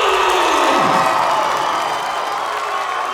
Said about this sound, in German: Während Füchsin Cindy von der Bühne aus anheizt, drängt sich Edda durch die jubelnden Zuschauer und versucht, ihre Werbeflyer zu verteilen.